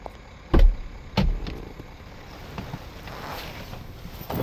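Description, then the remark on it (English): Two heavy thumps a moment apart, like a car door shutting and someone settling into the seat of an old car, then a steady low rumble of the idling vehicle with faint creaks and rustles. “I've never been in a car like this. Oh, yeah. It's old, but I don't trust those new fancy smart cars.”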